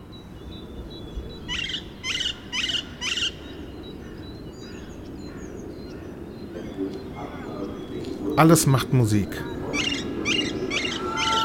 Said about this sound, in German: Der Singsang der Vögel im Kurpark.